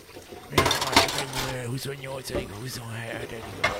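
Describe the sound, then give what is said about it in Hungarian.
Dishes clink and clatter in a few sharp knocks as they are washed up, while a woman's voice talks over the kitchen noise. “mosogatás közben magyarázza”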